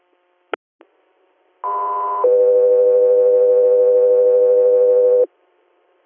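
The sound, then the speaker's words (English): Two clicks, then a loud steady two-tone dispatch radio alert for the Guthrie Air medical helicopter service: a short higher pitched tone gives way to a long, lower sustained tone lasting about three seconds, with no voices. “Guthrie Air, stand by for tones.”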